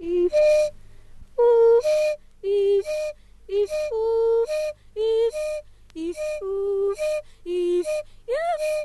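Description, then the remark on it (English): A single-pitched whistle alternates in quick, steady rhythm with a singing voice, the two interlocking in short repeated phrases, fairly loud throughout; a singer with a one-note whistle, singing along, from a recording by Simha Arom. “If we go back to something we heard very early on from Simha Arom's recording, this is the singer with a one-note whistle and singing along.”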